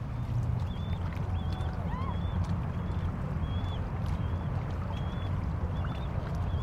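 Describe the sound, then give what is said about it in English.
Canoe paddles dip and splash into water in a steady rhythm over a dense, rumbling wash, while small birds chirp repeatedly in the background. “Chahuadko. Chahuadko. Chahuadko. Hit the water.”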